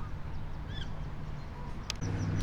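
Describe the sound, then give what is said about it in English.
A mother duck that has landed on the railing of a boardwalk gives a few short, nasal calls over a steady outdoor rumble, followed by a brief scuffing noise and a lower hum. “So weird that this duck has now flown up and landed on the railing of the boardwalk.”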